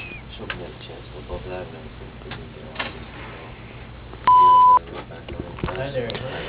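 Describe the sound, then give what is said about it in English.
A single loud, steady electronic voicemail beep lasting about half a second, preceded and followed by muffled voices talking in the background. “Please leave your name and number after the beep, and we'll get back to you as soon as we can.”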